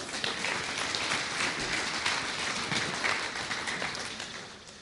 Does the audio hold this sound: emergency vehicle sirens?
no